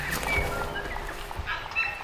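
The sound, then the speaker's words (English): Birds call outdoors in New Zealand in the late morning, with a few short, high whistled chirps scattered over steady background noise. No one is talking. “They have completely different birds here.”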